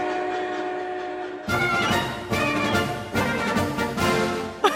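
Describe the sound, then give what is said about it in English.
A steady tone gives way to a loud, rhythmic chugging of a train rolling along the rails at a model railroad club in Wakefield, Massachusetts, its repeated beats driving, with no voices present. “here the trains are always on time”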